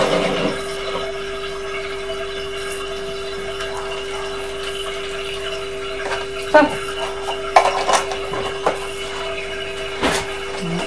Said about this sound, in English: I'm going to put the milk in too. One second. Right, so you tip some milk in.